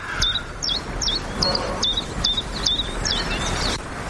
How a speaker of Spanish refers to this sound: Luego en otoño los pájaros no cantan, pero ayer un mosquitero común, es este pajarito que tiene este canto sincopado, a ver si este estaba en plena efervescencia por la mañana.